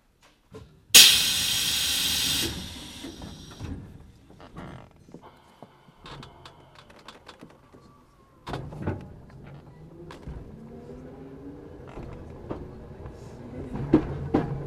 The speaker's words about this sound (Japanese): よろしければ扉が閉まります。